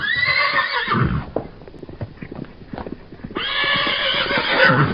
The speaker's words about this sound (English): You spooked our horses. We could have been killed.